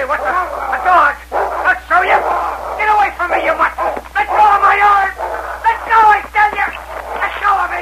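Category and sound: animal, dog barking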